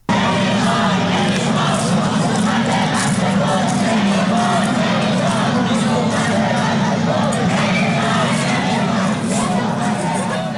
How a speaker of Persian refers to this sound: در شامگاه چهارشنبه که معترضان با تعداد قابل توجهی در خیابان‌های مرکزی تجمع کردند و شعارهای ضد حکومتی سر می‌دادن.